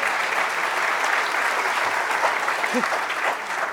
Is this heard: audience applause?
yes